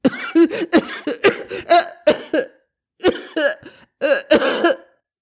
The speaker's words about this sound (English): His eyes flew open and he began to cough violently.